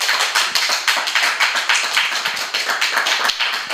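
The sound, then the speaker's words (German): Applause from a small live audience at a live show at the Chaos Computer Club: a dense, steady patter of many hands clapping at moderate volume, with no voices, holding evenly for a few seconds. “Mal gucken, wie laut der Applaus gibt, den es machen kann.”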